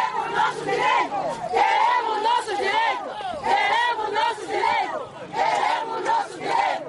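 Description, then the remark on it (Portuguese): A crowd of peasant women shouts protest slogans together at the door of the municipal administration, their raised voices rising in loud repeated bursts with short dips between chants, filling the whole stretch without pause. “As senhoras lançavam gritos e palavras de ordem à porta da administração municipal.”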